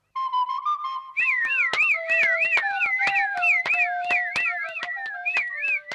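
A fujarka, a shepherd's pipe, sounds a steady held note, then breaks into a quick, warbling, repeating melodic figure, accompanied by sharp rhythmic clicks; no one speaks.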